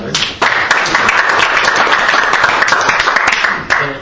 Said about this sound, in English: So with that, I will thank you very much for coming here, and I want to ask you all to give you a little round of applause.